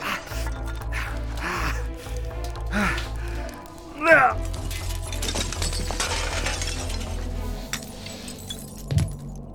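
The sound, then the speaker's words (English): Window glass shatters and crunches once, sharp, partway through, as someone climbs through what is left of a window into a depot, set against a steady low droning background. A voice gasps or exclaims. “I'll just, go through what's left of the... What's left of the window here.”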